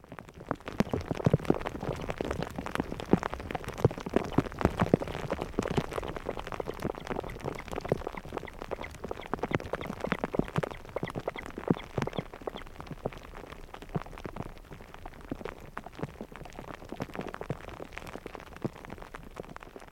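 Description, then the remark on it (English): Heavy rain pours down steadily under darkening skies, with hail bouncing around off surfaces, a dense hiss scattered with countless sharp pattering impacts that continue without a break. No one speaks. “Depressed and wet again, I listened as the skies darkened and the hail bounced around while the mother protected her chicks.”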